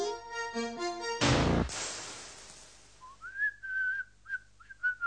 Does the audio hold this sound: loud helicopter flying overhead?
no